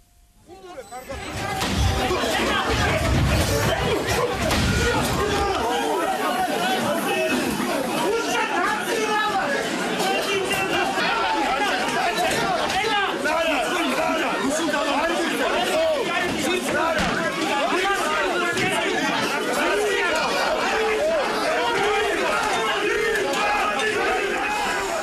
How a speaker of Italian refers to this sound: Le urla, i suoni che state ascoltando arrivano dai tafferugli scoppiati a Tbilisi lo scorso 23 di febbraio, nel contesto di una roccambolesca azione delle forze di polizia che hanno preso d'assalto, letteralmente passando dalle scalette antincendio